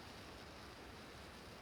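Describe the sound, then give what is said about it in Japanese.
A steady, continuous roar of rushing water from a waterfall fills the scene as an even wash of noise with no pauses or voices. “滝をバックに撮影は諦めるしかない。”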